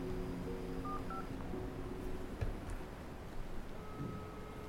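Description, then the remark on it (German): A few short, clear mobile phone keypad tones beep in quick succession as a number is dialed, followed by a steady held tone, over a low background hum with no one speaking. “Das war der Moment, in dem ich mein Handy in die Hand nahm.”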